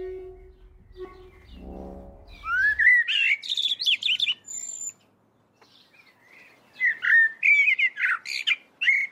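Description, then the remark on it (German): Harsh, rapid bird scolding calls in loud bursts, a chattering alarm that pauses briefly and then resumes, insistent after a low rumbling start. “Reckt das Auge, duckt sich, hüpft weg, in ihr Zetern, Klingen, von der Dämmerung verschluckt.”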